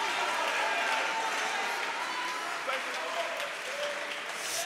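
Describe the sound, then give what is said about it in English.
A crowd claps hands steadily in praise of the Lord Jesus, a dense, continuous wash of applause, bright and hissy, with faint voices and cheers threaded underneath throughout. “Can you clap your hands into the wonderful name of the Lord Jesus?”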